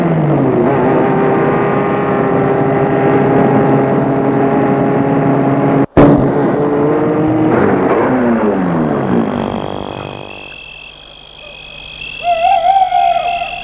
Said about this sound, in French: Il fait déjà nuit, la rue est déserte, il y a peu d'habitations. Il va arrêter la voiture devant la maison.